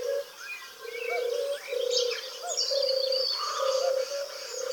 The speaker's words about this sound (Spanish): Las tórtolas traerán su monotonía a las copas de los árboles.